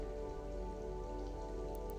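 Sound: gentle rain falling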